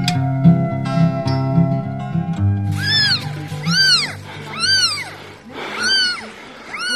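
A short musical intro fades into two newborn kittens crying, a series of four or five thin, high-pitched mews that rise and fall, fairly loud, with no talking.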